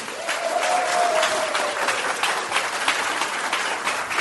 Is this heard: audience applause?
yes